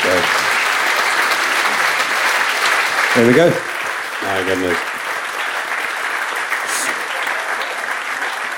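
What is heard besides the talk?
audience applause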